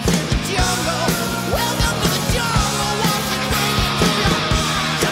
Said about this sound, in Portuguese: Será que se consegue falar no meio de tanta gritaria?